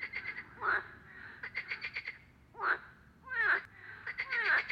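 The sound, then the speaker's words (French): Frogs croak in a chorus in a pond, with bursts of rapid rattling pulses and a few louder, raspy calls rising over a steady background hum of more frogs. No one speaks. “Au pied des remparts à Crépy-en-Valois, on a déjà emmené des gens à la découverte des chauves-souris et aussi à la découverte des grenouilles, tritons et des petites bêtes aquatiques dans la mare des remparts.”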